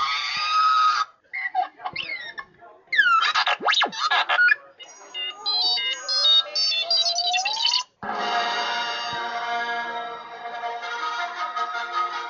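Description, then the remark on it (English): A remote-control robot replica built of aluminum, a wood frame and resin, with electronics inside, chirps, whistles and warbles in rapid electronic bursts with rising and falling sweeps, then a tinny, steady musical theme plays loudly from its small speaker. “Does that R2-D2 make the beeps and noises? Fire it up. Let's hear this bad boy do his thing.”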